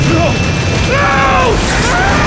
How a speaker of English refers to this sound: Adele slammed her hand down to activate the airplane engine mounted to the concrete floor. Murdoch lunged to grab the base of the mechanic's table, but the suction of the engine was too great.